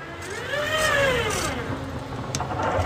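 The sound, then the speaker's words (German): A tram door in the passenger compartment closes with a motorized whine that rises and falls in pitch, followed by a couple of sharp mechanical clunks. Steady low rumble underneath, no voices. “Das ist tatsächlich eine Straßenbahntür im Vorgastraum.”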